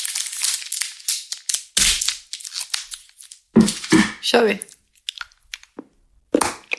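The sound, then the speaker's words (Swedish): Crinkly wrapper rustling, then several sharp, loud snaps as pieces are broken off a hard chocolate bar that had been kept in the fridge, with a few crunchy cracks in between and a brief spoken phrase. “Okej, minus till att det inte var så bra brytbitar. Den har legat i kylen.”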